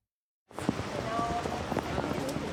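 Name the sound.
steady rain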